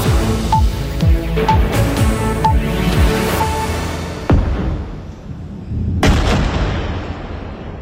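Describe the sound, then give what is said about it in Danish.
Repeated heavy explosions boom one after another at night in the Israeli city of Tel Aviv, amid waves of attacks between Israel and Iran. Two especially sharp blasts stand out near the end, reverberating with a rolling, rumbling echo. “Ja, eksplosioner i den israelske storby Tel Aviv her i nat, for angrebsbølgerne fortsætter mellem Israel og Iran.”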